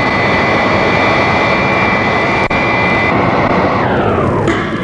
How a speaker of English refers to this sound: Robot plane slow to rendezvous with ship and hover. And Wonder Woman's plane soon makes contact with the alien craft.